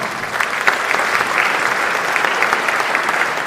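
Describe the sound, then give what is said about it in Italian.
An audience at the Premio Luciana Cozzi di Raimondo award event claps steadily to welcome a speaker, a dense, even wash of many hands with no voices standing out, holding at a fairly loud, constant level from start to finish. “ben trovato, un applauso.”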